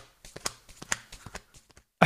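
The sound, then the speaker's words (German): A rapid series of dull, percussive slaps made by clapping twice on the chest, beaten out in quick galloping clusters imitating a horse's hoofbeats, ending with a sudden louder burst of sound. “Ja, kennst du noch von früher, wenn die Leute immer dieses Pferd nachgemacht haben mit dem zweimal Klatschen auf der Brust oder so?”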